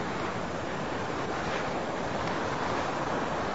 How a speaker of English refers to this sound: walking on a beach in Hobe Sound, Florida. It's a nature preserve. Got protected dunes. Maybe you can hear the ocean.